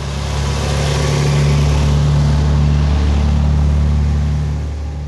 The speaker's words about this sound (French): Il est parti, ouais, ça c'est le bus de dépannage qui vient de partir, je pense que c'est lui qui était dedans.